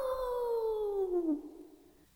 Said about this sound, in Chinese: 莫卡吓呆了， 是狼！ 他叫道，是真的狼！